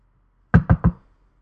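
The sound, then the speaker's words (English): Three quick, evenly spaced knuckle knocks on a wooden door, fairly loud, followed by silence. “He decides on a quick rap with his knuckles, which is hard to accomplish with the box in the bag.”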